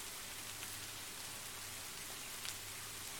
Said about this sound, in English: But anyhow, sitting in the pouring rain surely isn't good for your health. You'll catch a cold in no time.